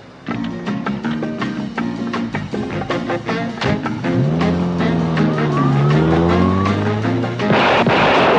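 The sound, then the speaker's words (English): A car: a series of clunks and knocks, then the engine revs up and its pitch swells and dips before a loud rushing burst as it pulls away. “Now you get in the car.”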